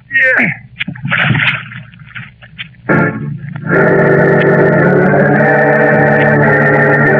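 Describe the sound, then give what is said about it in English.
A heavy body-sized splash into water as someone is thrown over the side of a ship at sea, with rough sloshing noise in the first seconds and a brief voice cry, then sustained music swells up and carries on loudly. “Now, over the side you go”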